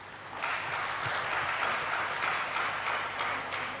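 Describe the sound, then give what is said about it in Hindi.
Loud, sustained audience applause welcoming a guest speaker, a dense wash of many hands clapping that swells in after a brief quiet start and holds steady for several seconds, with no voices over it. “मेरा आपसे अनुरोध है कि जोरदार तालियों की गड़गड़ाहट के साथ आप हमारे इन भाई साहब का स्वागत करिए।”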